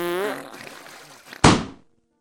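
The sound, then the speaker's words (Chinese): A buzzy, sputtering fart with a wavering, falling pitch trails off into rough noise, then a loud, sharp burst of a balloon popping cuts in and quickly fades to silence. “一个小小的屁成了压垮骆驼的最后一根稻草，气球一下子就炸开了，存储在气球里的超浓臭气瞬间充满了整个房间”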